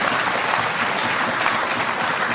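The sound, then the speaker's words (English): Steady, dense applause from a large audience, many hands clapping at once in a continuous wash of sound that holds at an even, fairly loud level throughout with no voices standing out. “Listen to those clapping seals, by the way.”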